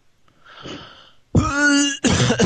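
human body sound, cough

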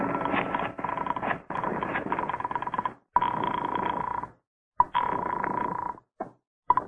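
household object, telephone being dialed

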